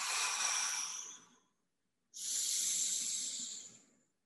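Two long, slow, deep breaths in a breathing exercise, in through the nose and out slowly while expanding the chest, each a steady airy rush lasting over a second, separated by a short pause of silence.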